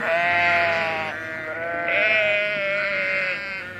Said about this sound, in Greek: Βελάζει μπε το πρόβατο.